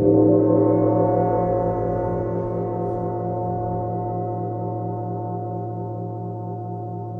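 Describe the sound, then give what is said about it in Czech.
A gong resonates with a deep, sustained metallic hum, its overtones pulsing in a slow, wavering beat as the sound gradually fades over several seconds, with no voices. “Treba ga ublažiti sa možda nekim manjim gongom i svakako izbalansirati da to bude prihvatljivo za druge.”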